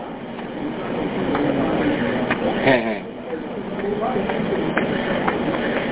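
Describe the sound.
A train rolls along the rails with a steady low rumble and occasional clacking jolts, moderately loud, while a person laughs briefly and talks over it.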